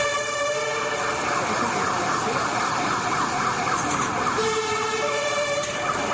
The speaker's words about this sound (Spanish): En torno a las 2 de la tarde, las sirenas de bomberos y policías señoreaban por las calles de Córdoba.